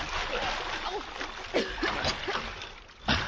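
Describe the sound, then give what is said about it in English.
Heavy splashing and churning water as people enter and cross a ditch about 20 feet wide, with a couple of louder plunging splashes near the middle and end, plus faint strained vocal sounds mixed into the sloshing. “Now, come on, let's get across that ditch. In the water? No. I will not do it. I will not go into the water.”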